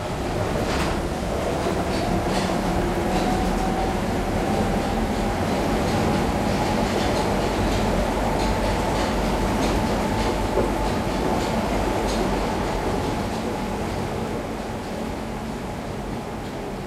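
A metro train rolls steadily along in the evening, its loud, continuous rumble with a faint whining tone and light rattling of the carriage, and no voices.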